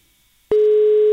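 telephone busy signal

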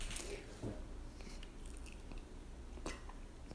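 sipping coffee

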